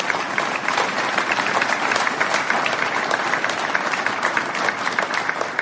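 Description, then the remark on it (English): A room full of people claps steadily for several seconds for the donors to a DMACC Carroll Campus project, a dense, even wash of applause with no pauses and no voices rising above it. “Let's give our donors a round of applause.”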